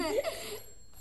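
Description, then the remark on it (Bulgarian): A bell rings once in a short, bright burst that fades quickly, leaving a thin lingering tone over quiet background sound. “За Бога, кой ли може да бъде? Ти защо толкова се изплаши? Хей, кой звъни?”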